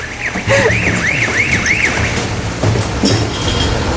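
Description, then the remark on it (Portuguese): A bakery siren, signalling that fresh bread is coming out, wails in a quick series of four rising-and-falling whoops, high-pitched and fairly loud, then fades out, leaving background noise and faint voices. “É a sirene da padaria, tá na hora de sair um pão.”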